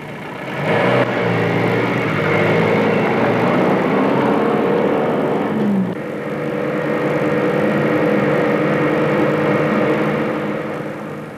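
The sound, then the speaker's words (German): A truck engine runs steadily and loudly, with a low rumbling drone that shifts in pitch around the middle as it keeps driving, no voices present. “Und unten steht gerade ein Lastwagen.”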